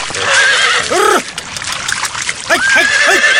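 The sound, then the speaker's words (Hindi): A horse stuck in a swamp whinnies loudly and shrilly, then neighs again in a series of rising, quavering cries, with splashing and trickling water underneath. “साहब, साहब, घोड़े दलदल में फंस गया।”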